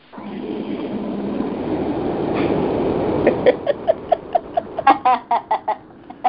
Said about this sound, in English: So we had to have some noise outside. Did a dolphin come in? No, I'm in the office. It was a car. A truck.